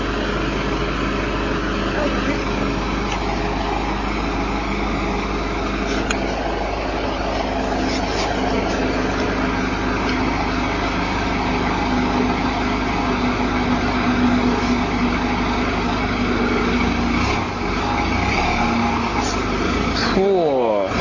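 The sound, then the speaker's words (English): A crane's heavy diesel engine runs continuously, a loud, steady low rumble with mechanical whine, throwing up dust and smoke as the crane comes through, while people talk over it. “Oh, there's a lot of dust and stuff coming up from the crane, a lot of smoke and stuff because of its engine.”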